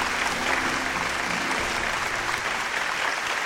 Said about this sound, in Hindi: तो साथियों, तालियों से स्वागत कीजिए हमारे होनहार नौजवान का